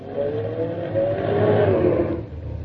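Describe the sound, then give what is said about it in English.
A car engine revs and strains steadily, rising and falling in pitch as the car is being parked during a driving test, loud, with no voices over it. “The inspector wants to know if you can park the car,”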